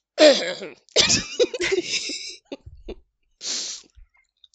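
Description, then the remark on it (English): A man politely clears his throat in a few short, gravelly bursts, then lets out a soft breathy exhale. No words are spoken. “The smell of alcohol was heavy on his breath, and all Nanjo could do was clear his throat politely at the humiliation of it all.”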